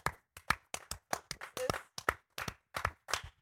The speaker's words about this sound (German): Aber kannst du kurz klatschen für meine heftige Antwort?